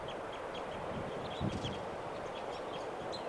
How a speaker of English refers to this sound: There's a bird. Now calling. Birds are fluffing and pooing here. Low in the trees. Can't tell who's calling.